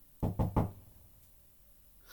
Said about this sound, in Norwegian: Nu banker det på døren.